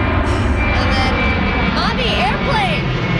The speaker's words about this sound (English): And then when my kid said, Mommy, airplane. Oh. I was like, wow, that's a really close one. And then 3 minutes later, Mommy, airplane.